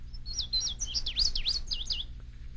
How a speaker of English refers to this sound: The bird may then be hidden from view by the leaves, but the song may instantly reveal its maker. To be able to instantly identify a bird by its song takes considerable practice.